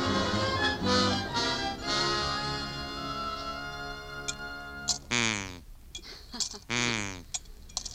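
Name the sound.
cat purring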